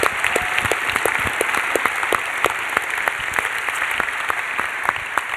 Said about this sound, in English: Would you give them a round of applause and welcome them here?